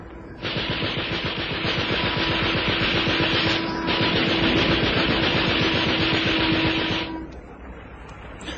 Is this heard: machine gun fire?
yes